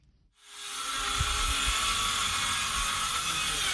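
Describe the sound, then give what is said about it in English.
Power drills whine up after a brief pause and then run steadily at full speed, a loud, sustained high-pitched mechanical roar with low rumbling thuds underneath, in the village of Guidemartin, a quiet community of 2,000 people with no electricity, about 100 kilometers from Dakar, Senegal. “The roar of power drills fills the air in the village of Guidemartin, a typically quiet community of 2,000 people located some 100 kilometers from the Senegalese capital of Dakar.”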